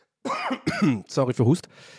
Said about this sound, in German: Sorry für Hust. Anyway, das tut mir echt leid mit dem Husten. Ich glaube, das ist ätzend, wenn man einen Podcast hört, aber es kommt einfach irgendwie. Aber ich bin noch so in den letzten Zügen. Also sorry dafür.